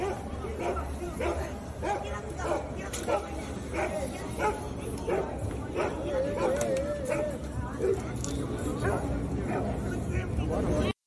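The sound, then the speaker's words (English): A dog barks and yips repeatedly in short bursts throughout, involved in a street fight between people in a city, over a steady background of people talking and general crowd chatter. “A dog is involved.”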